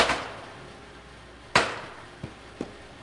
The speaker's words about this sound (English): Inside a shed, two men hammer edges off the slabs, making them smooth and true. That's the real sound of stone cutting, a small hand tool, small 3-pound handheld hammer. Been done that way for hundreds of years.